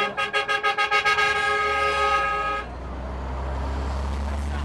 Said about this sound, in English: When the buses finally pull away, headed for the Syrian border, more than 400 get a place. But hundreds more are left behind, and they shout goodbye to family and friends.